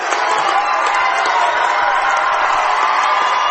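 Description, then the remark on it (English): A large basketball arena crowd roars and cheers steadily during a game after a player is fouled, a loud sustained wall of voices with whoops mixed in, never letting up across the few seconds. “Listen to that crowd, folks.”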